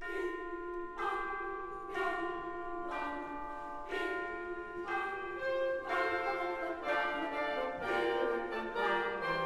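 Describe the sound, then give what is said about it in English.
Bright bells strike in a steady, repeating pattern, each stroke ringing out with a long shimmering decay that overlaps the next, over a sustained orchestral backdrop with no voices, in the Mahler movement 'What the Angels Tell Me', set to a text from Des Knaben Wunderhorn. “The darkness at the end of the movement moves without a break into the world of bells and What the Angels Tell Me.”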